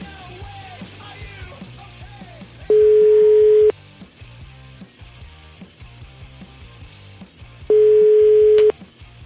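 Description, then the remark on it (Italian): A telephone busy tone sounds twice after a phone call drops, each a loud, steady one-second beep separated by a long pause, cutting in over quieter background music. “Anche il telefono se n'è andato.”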